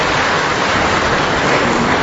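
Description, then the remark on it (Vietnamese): A round of applause from a crowd, called for by a speaker addressing the audience: dense and steady clapping that holds at an even, loud level for about two seconds with no voices over it. “Rồi, chúc mừng những người sống, một tràng pháo tay thưa anh chị em.”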